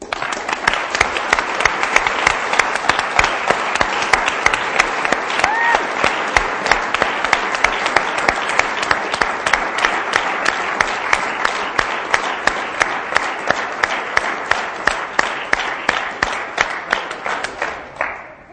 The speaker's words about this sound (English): All the guys making coffee and serving coffee and making sandwiches and making sound and what everybody did, read from up here, and I think we should applaud all of these guys.